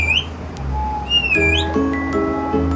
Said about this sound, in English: It's dusk on Peachtree Street, just south of Piedmont Hospital. You hear the street traffic, and along a certain stretch, you also hear the birds.